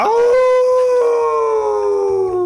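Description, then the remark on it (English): A person lets out one long, loud wolf-like howl, a sustained voiced tone that rises sharply at the start and then slowly slides downward for a couple of seconds. “I'm just going to howl.”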